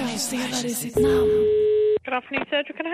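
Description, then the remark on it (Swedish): Voices talk, then a single steady telephone ringing tone sounds loudly for about a second as a call is placed for the Sveriges Radio segment Hej Domstol, before voices resume over the line. “Hej Domstol ringer folk med könsdelar i sitt namn.”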